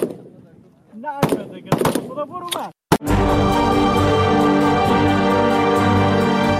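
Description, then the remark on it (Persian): Several sharp, loud gunshots crack at irregular intervals as Afghan women at shooting practice fire at targets, with voices heard between them, then steady music takes over. “با آن هم این زنان بی توجه به آینده ناروشن تلاش دارند تا گلوله هایشان به هدف بخورند و برای کشورشان تأمین امنیت کنند.”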